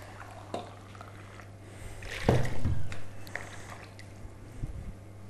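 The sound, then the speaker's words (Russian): About 300 grams (one and a half glasses) of warm, not hot, water is poured for making pumpkin pie dough in a short gush lasting about a second, a splashing, bubbling rush over a steady low electrical hum, with a few faint clinks and drips before and after. “Мы возьмем одеваю, 300 грамм воды теплой, но чтобы не горячая, у нас теплая вода.”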